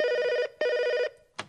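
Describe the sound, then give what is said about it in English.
A telephone rings in two quick, loud bursts, the classic double trill, followed by a short click-like sound as the ringing stops. No one speaks. “So in this round, I want the contestants to celebrate the Great British Sickie by ringing me up with excuses for why they can't come in today.”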